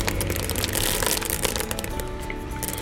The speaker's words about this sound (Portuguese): E agora, depois que as castanhas ficaram hidratadas, eu vou derramar tudo isso aqui, olha, no liquidificador.